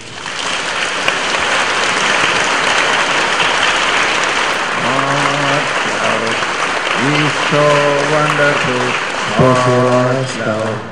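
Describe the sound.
A large crowd claps loudly and steadily throughout for God, a dense continuous wash of applause, with a voice rising over it in the second half.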